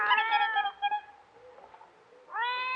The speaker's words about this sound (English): Sounds like a cat. Wait till I strike another match. It's our kitten. Here, kitty.